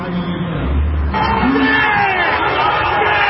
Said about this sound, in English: Now, you're hearing a lot of crowd noise here, and that's because there's a large number of people outside of this man's restaurant, as what appears to be at least four, if not five, police officers escorting the owner